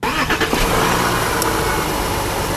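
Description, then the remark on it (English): A Volkswagen Touareg V6 TDI clean diesel engine cranks over and settles into a steady, loud running rumble, with no voices present. “That was the Volkswagen Touareg V6 TDI. It runs on clean diesel.”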